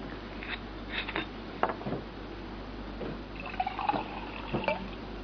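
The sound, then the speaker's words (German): Water pours into a glass in short, uneven splashes, with a faint rising tone as it fills, with no talking. “Nee, ich brauche noch Wasser vorher, Entschuldigung.”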